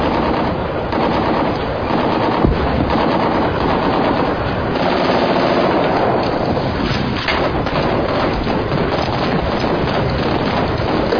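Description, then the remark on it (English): Gunfire from a Chinese-model AK-47 assault rifle rattles in a dense, continuous stream of rapid automatic shots, loud and steady throughout with no pauses and no voices. “The AK-47 is the most popular assault rifle in the world.”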